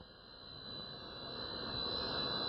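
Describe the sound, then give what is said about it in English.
A rock band's private jet engine roars steadily at Tampa International Airport's Tampa Air Center, a broad whooshing rumble with a high whining tone, growing slightly louder over a few seconds, with no voices. “they travel with their own jet, waiting at the airport, two limousines, and a police escort.”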